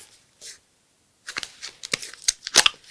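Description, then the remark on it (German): Someone fumbles with the child-resistant packaging of a medicine-themed dice set: after a faint rustle and a short pause comes a burst of crinkling plastic and sharp clicks that grows busier and louder, with no talking. “Die Kindersicherung hat bei mir so gut funktioniert.”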